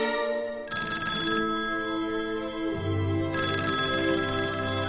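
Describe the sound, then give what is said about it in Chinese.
A telephone rings with a bright, tonal electronic ringtone, its melody shifting pitch in steady phrases for several seconds, loud with no talking. “妈妈不在家，我连电话都接不了，哎，真没用。”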